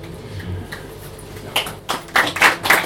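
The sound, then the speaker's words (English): A short burst of audience applause rises after a quiet start, with dense, irregular hand claps crackling for the final second or so. “Now, only going to say good clapping, the best is yet to come.”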